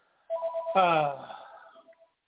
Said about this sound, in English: it's been a long time since my phone is ringing in here.